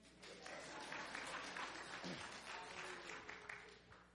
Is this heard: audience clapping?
yes